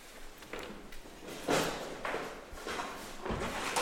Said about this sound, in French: Attendez, je vais fermer la porte parce que ça fait du bruit le kick.